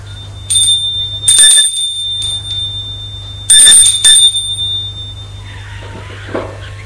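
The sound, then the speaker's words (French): An apartment doorbell rings twice, each burst a bright, metallic jangle whose high tone lingers afterward, over a steady low hum with some faint rustling at the end. “Malgré tout, il sonne à l'appartement.”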